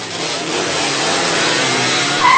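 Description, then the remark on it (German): A scooter's motor drones steadily, growing slightly louder as it approaches, with a brief high-pitched tone cutting in right at the end. “Ich komme mit dem Roller hier an, wir quatschen kurz und fahren dann gemeinsam mit dem Roller weg.”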